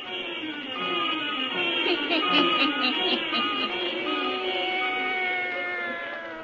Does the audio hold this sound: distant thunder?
no